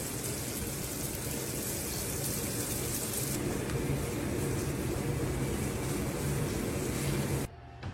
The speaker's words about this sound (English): I'm turning this water on for a second. Well, you'll burn me up.